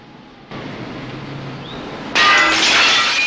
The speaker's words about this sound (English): Crashing through a window into a room, Murphy begins untying his harness while the cop climbs in after him.